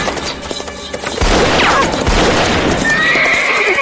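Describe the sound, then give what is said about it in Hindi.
A horse whinnies loudly with a rising, quavering cry over the rattle and clatter of a tanga, a horse-drawn cart brought by Basanti, hooves clip-clopping steadily beneath the noisy rumble of wheels. “बसंती तांगा लेकर आई।”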